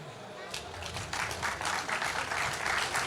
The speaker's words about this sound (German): Gebt euch selber einen Applaus dafür, falls hier jemand ist. Ey, die anderen können auch applaudieren.